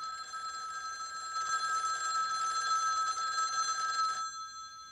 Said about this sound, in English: Or that telephone ringing.